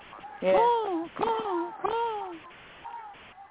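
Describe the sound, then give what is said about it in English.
A person's voice imitates a crow's caw three times in quick succession, each call a harsh, falling squawk, followed by a softer, brief sound near the end. “What was it? A crow? A crow.”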